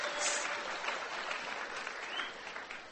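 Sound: audience applause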